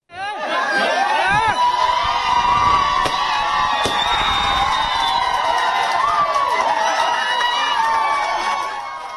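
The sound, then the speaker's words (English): A large crowd in India screams and cheers with joy as the country decriminalizes homosexuality after a Supreme Court ruling, a dense wall of shrill overlapping voices and whoops that stays loud and sustained throughout, with excited shouting layered on top. “Screams of joy there ringing out across the world as India finally decriminalizes homosexuality.”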